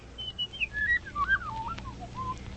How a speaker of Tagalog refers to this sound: Tanawa ang matahum nga kabulakan, kag pamati ang kapispisan nga nagaamba.